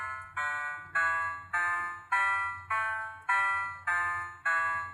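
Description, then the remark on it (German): A data sonification of the growth in installed wind power capacity from 1997 to 2005: a steady sequence of about nine bright electronic tones, each starting sharply and fading before the next, the highest value given the highest tone, with a faint low hum underneath and no talking. “Sie hören hier den Leistungszubau in der Windenergie von 1997 bis 2005.”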